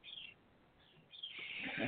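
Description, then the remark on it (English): A pet bird chirps in short, high-pitched bursts, then breaks into a busier stretch of twittering. It sounds quiet, with no one talking. “Oh, there's my bird.”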